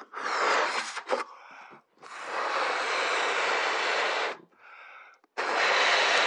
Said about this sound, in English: Let me blow this balloon up again.